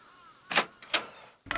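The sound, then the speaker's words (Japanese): The door of a house is opened without resistance: two sharp mechanical clunks of a latch and handle, followed by a brief scraping rattle as it swings, with the house silent inside. “ドアは何の抵抗もなく開いた。”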